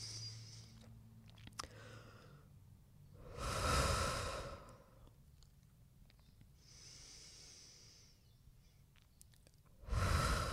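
Deep breaths: a long, loud, airy rush, a softer hissing breath, then another strong breath starting at the very end, with quiet pauses in between and no talking.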